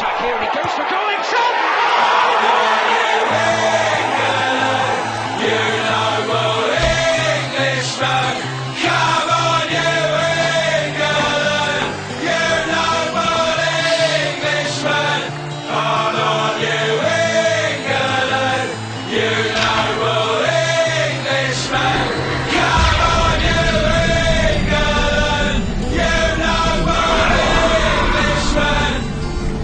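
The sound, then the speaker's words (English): A loud, full-band intro to an England football anthem for the 2010 World Cup plays continuously, with sustained bass notes and layered melodic parts building steadily over about thirty seconds. “This is the official, unofficial England World Cup anthem 2010”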